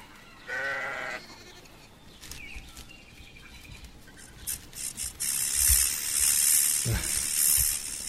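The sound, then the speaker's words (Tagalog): A single wavering bleat from a sheep with very clean, very white wool sounds early, followed by a stretch of loud hissing, spray-like noise with a few dull knocks. No one speaks. “Napakalinis ng mga balahibo ng hayop na ito. Napakaputi. Tatawagin ko itong Tupa.”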